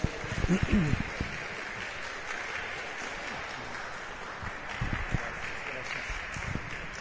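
An audience claps steadily for several seconds, a dense, even wash of many hands, with a brief vocal shout near the start and a few louder swells toward the end.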